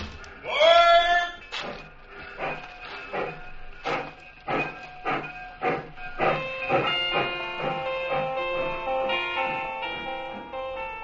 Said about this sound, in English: I stood there on the embankment as the train pulled away.